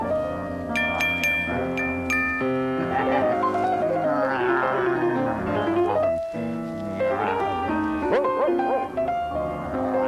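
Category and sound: animal, dog barking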